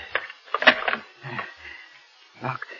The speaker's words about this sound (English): Safe in my room. Now wait, I must lock the door.